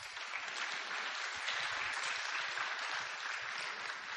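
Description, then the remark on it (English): Steady applause from an audience as a representative of the ministry Choose Hope is invited onto the stage, a dense wash of many hands clapping at once, sustained at an even level throughout with no voices standing out. “You can clap.”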